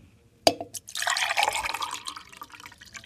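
A sharp clink, then water is poured into a glass in a steady, gurgling stream that fades toward the end, with no one talking.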